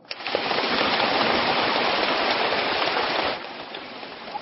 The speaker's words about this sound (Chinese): 鼓掌。